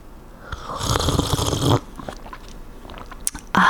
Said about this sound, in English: Hang on, I need to sip my Thai coffee.